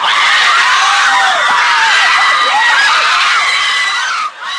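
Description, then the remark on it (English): A dense crowd of students shouting and screaming in a school cafeteria during a fight, as a principal trying to break it up is body slammed by a student, many high-pitched voices overlapping in a loud, continuous uproar that barely dips before swelling again. “A principal trying to break up a fight in the cafeteria.”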